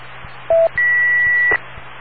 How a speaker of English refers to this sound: wait for the beeps.